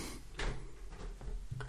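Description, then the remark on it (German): A door is pushed shut by a child, with a few short knocks and clatters of handling and latching spread across a moment, fairly quiet and without any talking. “Jette, kannst du die Tür wieder zumachen, bitte?”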